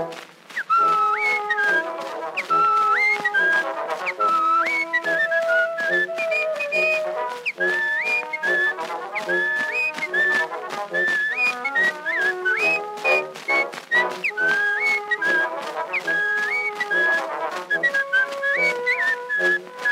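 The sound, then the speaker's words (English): A person whistles a lively, bouncy melody loudly, with quick hopping notes and short held tones that continue steadily for the full length without any talking. “And it made him feel so proud when he'd whistle out so loud. And this was his old familiar tune.”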